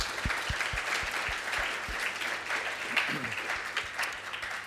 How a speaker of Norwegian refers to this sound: Ja, ikke det fint da? Ja, vi kan gi en liten applaus for det, synes jeg.